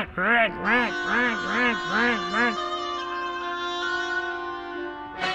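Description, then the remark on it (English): A reedy woodwind mimics a duck quacking angrily at a cat from the middle of a pond, with five quick, bending squawk-like notes in a row, then settles into a long held tone as the orchestral passage carries on. “While the duck quacked angrily at the cat,”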